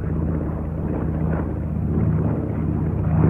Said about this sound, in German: Jetzt bekommt die Ju-52 ihr gutmütiges, dumpfes Grollen.